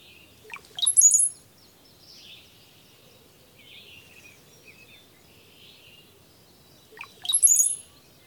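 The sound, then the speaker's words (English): Two songs of a male brown-headed cowbird, each a short burst of low gurgling notes rising into a thin, very high whistle, separated by a long gap with faint softer bird calls in between. “The song of the male is a thin, high-pitched whistle preceded by soft, gurgling notes.”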